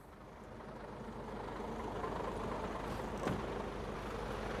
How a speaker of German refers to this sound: Verkehr vor dem Schlachthof Teterow, LKWs bringen schlachtreifes Vieh.